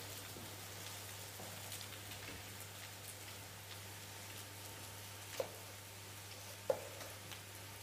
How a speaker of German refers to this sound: So, Bratkartoffeln brutzeln jetzt hier vor sich hin.